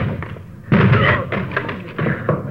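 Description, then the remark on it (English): A locked door is forced open by police officers with a sudden loud crash, followed by a few more heavy bangs and rattling as it gives way. “Door's locked. Let's hit it.”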